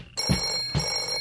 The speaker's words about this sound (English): Clubhouse phone. Oh, I got it.